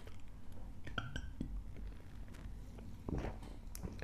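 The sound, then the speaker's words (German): Drink containers knock together in a toast, a few sharp clinks with a brief ringing tone, followed by scattered handling knocks over a low background murmur. “Von daher, wir stoßen ja jetzt irgendwie immer an, ne?”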